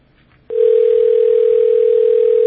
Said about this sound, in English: Well, I just had to demonstrate that the phone was, in fact, ringing. It's going to ring a few times, but listen carefully.